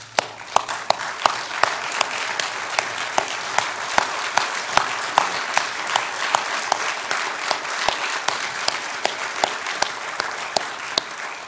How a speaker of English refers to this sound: Could we all stand? That's right. And let's applause God's word this morning. All right, let's do that.